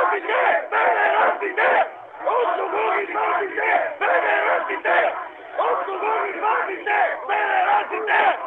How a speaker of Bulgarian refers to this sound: Въоръжени с щитове, наистина може би така наречения част от отряда за масови безредици, току-що влезе в парламента. Хората с освирквания ги прияха и с възгласи: от кого ги пази се?